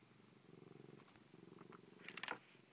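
A cat purrs in a steady, rhythmic rumble of quick pulses, with a brief brighter scratchy noise near the end.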